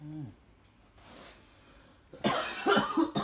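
Someone coughs hard: a softer single cough, then a loud, harsh fit of several rasping coughs in quick succession. A brief voice is heard at the very start.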